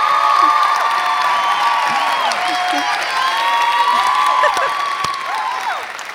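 A room full of people bursts into steady, loud applause mixed with cheering and whoops, sustained for several seconds before tapering slightly at the end.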